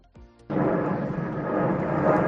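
A low-flying aircraft on a take-off route roars over the rooftops of houses in San Sebastián de los Reyes: after a brief faint hum, a loud, broad rushing rumble surges in abruptly and holds steady, swelling slightly toward the end, with no voices.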